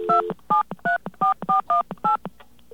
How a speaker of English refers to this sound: Because I got to dial on the other line. I got a connector here.